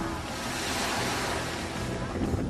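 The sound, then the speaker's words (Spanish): Steady roar of Mediterranean sea waves washing onto a beach on the Costa Brava in northern Spain, with trees beside the beach and rocks in the water, mixed with strong gusting wind buffeting the microphone in fine weather, loud and continuous throughout with no pauses. “Hacía buen tiempo, aunque el viento era un poco fuerte.”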